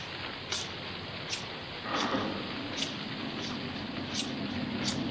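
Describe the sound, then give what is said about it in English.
Steady rain pours down in a dense, hissing wash, with occasional sharper drips and spatters standing out from the continuous downpour. No one speaks. “Well, let's just don't stand here in the rain talking about it.”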